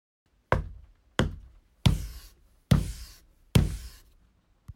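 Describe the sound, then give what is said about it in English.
Five firm knocks on a bathroom stall door, evenly spaced about a second apart, each a sharp thud with a short hollow ring. Fairly loud, with no voices. “She knocked 5 times.”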